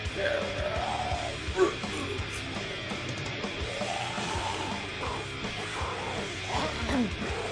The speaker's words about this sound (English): Whoa. I like the double yells. Yeah. Who's the second yell? Is it the fat guy, I think? I hope so.